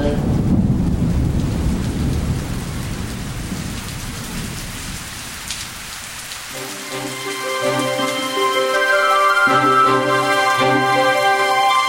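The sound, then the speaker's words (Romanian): A thunderstorm with steady rain and a low, rolling rumble of thunder, fairly loud, before sustained musical chords come in over the fading storm. “O să plouă în seara asta!”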